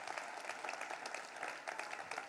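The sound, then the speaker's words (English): An audience claps steadily, a dense patter of many hands at a moderate, even level with no voices standing out over it. “Good clapping.”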